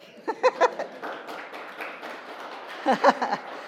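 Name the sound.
audience clapping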